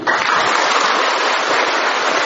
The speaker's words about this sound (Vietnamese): Chả lẽ có điện thì mới vỗ tay, mà không có điện thì không vỗ tay được à? Không có điện vỗ tay được không? Vỗ tay còn to nữa thử coi nào. Tiếng vỗ tay át cả tiếng cúp điện luôn, có sợ gì đâu mà sợ.